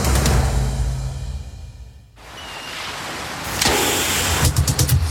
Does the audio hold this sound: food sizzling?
no